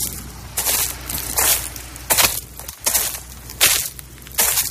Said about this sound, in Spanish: Y esto que escuchas, pues son mis pisadas en uno de los olivares de Mora, en Toledo. La verdad es que es impresionante esto, de verdad. Estar en estos campos que recorren colinas hasta donde se pierde la vista.